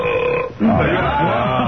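A man lets out a loud, long, rumbling burp up close, lasting about a second, right after a short steady tonal sound.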